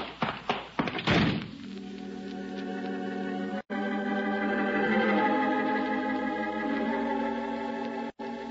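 A quick series of heavy, dull thuds as a man strikes someone on the head, then gives way to a steady, sustained ringing drone that fills the rest.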